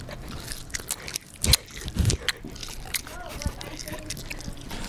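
Wet munching with smacking and crunchy bites, chewing sounds repeating irregularly over several seconds, loudest in a couple of sharp crunches near the middle.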